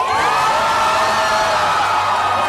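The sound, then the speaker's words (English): A crowd in Tel Aviv cheers and whoops, celebrating the release of hostages, a loud, sustained roar of many voices with high shouts rising above the dense wash of noise throughout. “Crowds gathered in Tel Aviv to celebrate the release of more hostages.”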